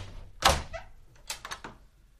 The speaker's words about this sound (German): Dann geht die Tür auf.